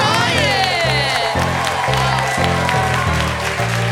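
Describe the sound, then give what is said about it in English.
A crowd applauds and cheers steadily and loudly for the cast and crew for the whole stretch, a dense wash of clapping over music whose sustained chords change about every half second. “Please give a round of applause to the cast and crew.”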